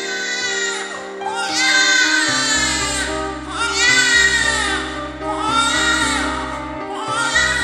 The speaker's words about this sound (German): Die Neugeborenen weinen, zu betreten die große Narrenbühne.